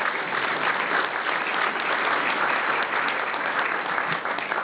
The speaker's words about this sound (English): You can now applaud.